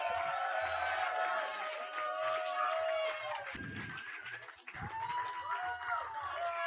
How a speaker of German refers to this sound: Nochmal einen kräftigen Applaus